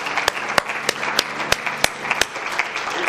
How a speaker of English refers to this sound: Amen. Let's give him a hand clap tonight. Hallelujah.